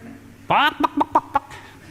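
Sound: voice imitating chicken clucking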